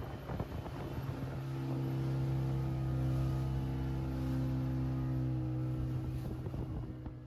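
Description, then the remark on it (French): A boat engine drones steadily during a sea crossing to Lombok, a low constant hum with strong tonal bands, while wind buffets the microphone throughout. No one speaks. “Donc on se fait cette traversée trop sympa avant d'arriver à Lombok où on passe les 5 prochains jours.”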